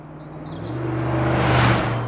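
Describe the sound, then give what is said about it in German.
A car approaches and drives past on a country road on a warm, sunny early-summer day, its engine hum swelling to a peak before easing off slightly, with faint birdsong in the open countryside behind it. “Auf der Landstraße fuhr ein Auto vorbei.”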